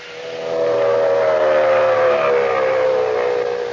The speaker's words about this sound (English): Fellows and girls, hear that sound? It's the terrific pulsating roar of a racing motor. It's the shriek of racing tires traveling at 100, 120, faster than 150 miles an hour.